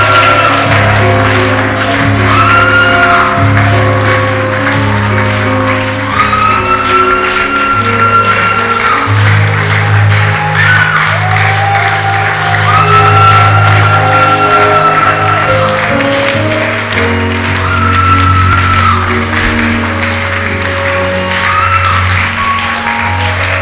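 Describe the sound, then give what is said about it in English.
An audience at a shout service shouts and claps continuously and loudly for over twenty seconds, with rising, wavering voices over a dense wash of clapping and steady low sustained musical tones underneath. “Now shout and clap. Today is a shout service.”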